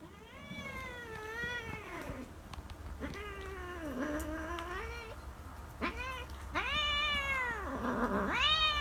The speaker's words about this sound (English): Here's cats mating. This is on a balcony, by the way. So this is recorded on a balcony, and it looks like sunny California.